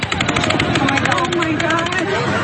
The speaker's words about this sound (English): More gunfire, much closer. I would estimate it had to be within a half block of where I was.